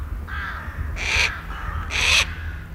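Rooks caw outdoors: a fainter call, then two loud, harsh caws about a second apart, over a steady low rumble of background noise.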